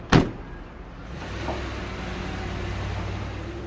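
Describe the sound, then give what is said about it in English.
A van door slams shut with one sharp, heavy thud. Then a low, steady engine rumble starts up and continues to the end as the van leaves. No one speaks. “The door slammed and she was off.”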